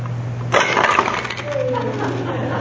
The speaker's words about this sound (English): put in a coin to discover the difference between money and anger